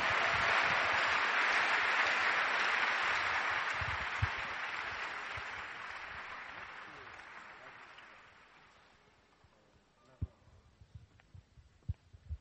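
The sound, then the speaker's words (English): A church audience claps together for the Lord in sustained, dense applause that holds steady for several seconds, then gradually fades out, leaving a few scattered claps and soft thumps at the end. “Give the Lord a clap offering. Acclamez le Seigneur.”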